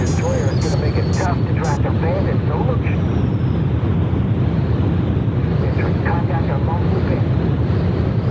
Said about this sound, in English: Okay, this is some kind of jet plane thing. It is a jet plane thing. That is correct.